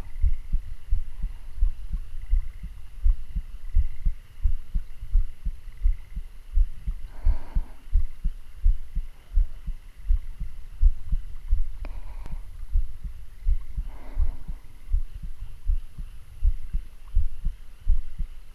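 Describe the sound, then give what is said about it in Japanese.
A muffled heartbeat pounds steadily and fairly quickly throughout, its deep low thumps repeating in an even rhythm, with a few faint brief rustles over the top and no talking. “でも今は少しドキドキするかもしれんね。”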